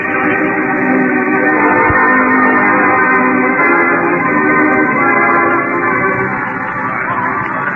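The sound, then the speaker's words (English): The horn of an arriving ambulance, coming to take an injured man to hospital, blares continuously for about eight seconds, a loud, steady, brassy tone thick with layered harmonics, with no voices over it. “Here comes the ambulance now, old-timer.”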